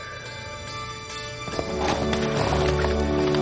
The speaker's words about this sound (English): Luke rides into the yard. The horse rears up on its hind legs.